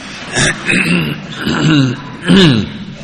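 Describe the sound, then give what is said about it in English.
A few gruff throat-clearing sounds and short cough-like bursts, spaced roughly a second apart, with no talking in between. “And raise your hands above your head like you're signaling for a touchdown, and twist the trunk of your body and flex everything you got and cough and clear your throat.”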